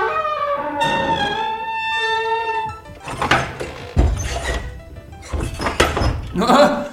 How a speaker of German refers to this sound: Los, Erik, hau die Tür zu.